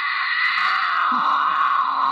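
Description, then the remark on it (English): A female mountain lion in heat lets out a loud, sustained scream, a harsh, wavering wail lasting a couple of seconds without a break, with no talking. “That's a female in heat.”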